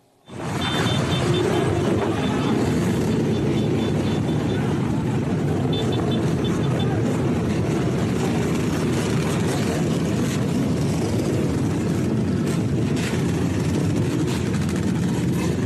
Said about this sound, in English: This is now a, well, it's commonplace. Major gangs riding bikes all over the place, motorbikes. Take a look.